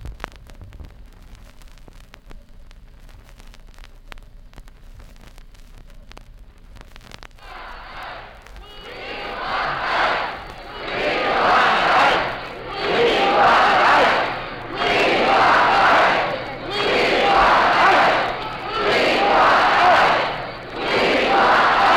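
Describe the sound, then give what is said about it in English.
A capacity crowd of Detroiters in the main auditorium of Masonic Temple in Detroit cheers and roars with enthusiasm while waiting for an address by Dwight D. Eisenhower, the Republican presidential candidate. The noise rises and falls in repeated swells after a few quiet seconds of faint murmur, with no single voice standing out. “Ladies and gentlemen, we're speaking from the main auditorium of Masonic Temple in Detroit, where a capacity crowd of wildly enthusiastic Detroiters are waiting to hear a major address by Dwight D.”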